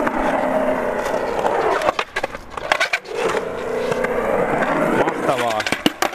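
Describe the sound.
A skateboard rolls downhill at Runosmäki with a steady, gritty wheel roar punctuated by sharp clacks and knocks, and a voice rises briefly near the end.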